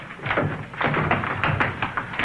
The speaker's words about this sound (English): Hey, how come the door's locked? Anyway, I wouldn't worry about it, Chip. And you better open the door before Rob breaks it down.